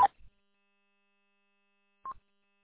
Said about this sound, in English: You got a little courtesy tone on the end. Roger, beep.